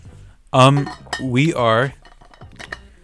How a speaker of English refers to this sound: That's my water bottle, everyone.